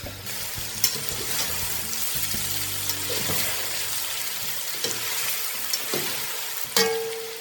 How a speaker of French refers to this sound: Je fais chauffer la viande de porc, papier roussi.